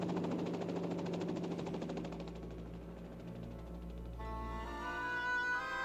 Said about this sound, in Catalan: El nus escorredor es va afluixar i va desaparèixer juntament amb els ganxos, i el soroll de l'helicòpter es va anar perdent.